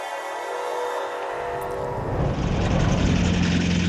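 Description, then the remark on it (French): A small, old car engine drones steadily on the road to Paris, its low rumble growing louder and rougher after a couple of seconds as if revving or pulling away, with no one speaking. “Bon, alors là, la voiture, elle date un peu, elle est un peu vieille.”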